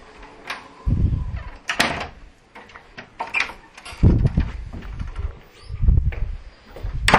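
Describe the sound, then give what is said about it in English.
A door is blown by the wind and bangs shut, with several heavy, low thuds and clattering rattles spread over a few seconds. No one speaks. “The wind blew the door and it closed.”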